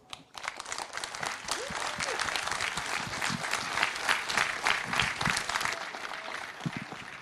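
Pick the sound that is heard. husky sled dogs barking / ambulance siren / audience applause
audience applause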